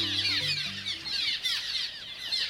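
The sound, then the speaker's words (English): A busy chorus of cliff swallows, back from wintering in South America and gathering in a nesting colony, chattering and twittering all at once, a dense, continuous flurry of high squeaky calls, with a faint low tone underneath at the start. “Cliff swallows have returned from wintering in South America, and they're gathering in nesting colonies.”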